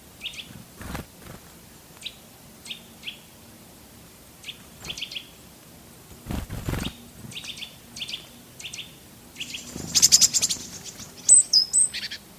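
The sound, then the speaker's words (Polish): A series of short, sharp Eurasian nuthatch calls repeats in quick clusters, followed by brighter, higher great tit calls near the end, with a few dull thumps in the background, recorded by a microphone left under bird feeding balls. “Po konsultacji z ornitologiem Maciejem Szajdą donoszę, iż najpierw usłyszeliśmy kowalika, a potem sikorę bogatkę.”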